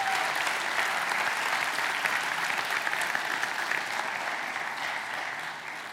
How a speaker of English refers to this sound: Can we just give them a huge hand clap one more time?